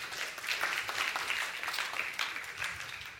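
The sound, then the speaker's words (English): A crowd applauds steadily for a few seconds for people who have just done jumping jacks, dense overlapping claps forming a continuous wash of sound with no voices standing out. “Let's give them all a round of applause.”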